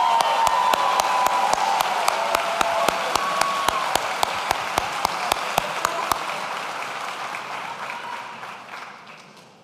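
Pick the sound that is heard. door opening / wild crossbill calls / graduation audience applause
graduation audience applause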